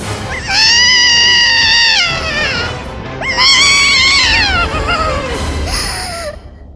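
Two long, loud wailing cries, rising and bending in pitch with strong harmonics, close and piercing with a brief pause between them, like an anguished scream or caterwauling yowl.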